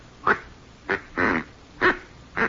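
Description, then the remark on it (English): A duck call, ordered by mail from St. Louis, blown in five short, nasal, honking bursts, the middle one drawn out longer, at an uneven pace, fairly loud with no talking. “Oh, this is a duck call.”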